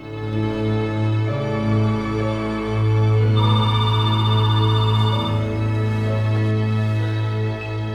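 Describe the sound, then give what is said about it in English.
A telephone rings with a single trilling burst near the middle, unanswered by a woman lying in bed, over a steady, low sustained musical tone that fills the whole stretch. No one speaks. “She lies in bed, ignoring the phone.”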